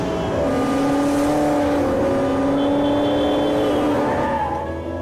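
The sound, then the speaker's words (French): A black sports car's engine revs hard as it accelerates away from a red light in traffic, its loud, rising whine sustained for several seconds with a steady, roaring drone underneath. “Il accélère. Le barbu tourne la tête vers lui. Il le regarde, il sourit. La voiture de sport noire s'allume dans la circulation.”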